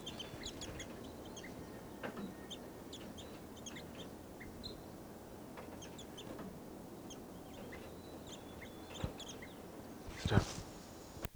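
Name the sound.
birds clucking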